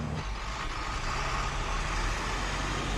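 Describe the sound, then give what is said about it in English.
A truck's engine rumbles steadily, a deep, continuous low drone with broad road noise as the truck moves forward again after a traffic light turns green. No one speaks. “The light turns green, and the truck moves forward again.”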